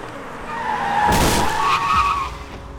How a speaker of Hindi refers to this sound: और अचानक जीत ने गाड़ी के ब्रेक्स मारे।